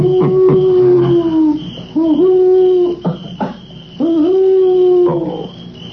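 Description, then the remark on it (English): An owl hoots three times in long, wavering, drawn-out calls that sound close and fairly loud, while crickets chirp steadily in the background. No one speaks. “Do owls ever have the whooping cough?”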